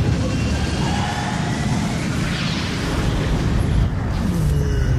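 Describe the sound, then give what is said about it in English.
A vehicle engine starts up and settles into a loud, deep, steady rumble, a thick low roar that holds for several seconds with a faint higher whine in the background and no voices. “Engine on. Running. Engage.”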